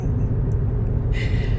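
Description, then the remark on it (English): Steady low engine rumble fills a car interior while driving, a continuous droning hum with a brief brighter hiss rising near the end. “I'm gonna have to pull my goddamn car over so I don't crash.”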